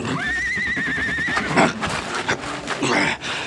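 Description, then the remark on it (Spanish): At night, a horse whinnies in a long, wavering, high-pitched call, followed by agitated snorts and shuffling hooves, with more restless neighing from other nervous horses over a noisy background. “De pronto, los relinchos rompen el silencio de la noche. Las bestias están nerviosas y anuncian algo.”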